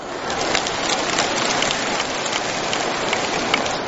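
Applause from a crowd: a dense, steady wash of many hands clapping at an even loudness throughout, with no voices on top.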